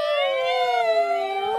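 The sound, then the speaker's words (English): A crowd of voices imitates an ambulance siren, holding a loud, steady wailing tone that dips slightly in pitch over a second and a half. “Now give me the sound of an ambulance.”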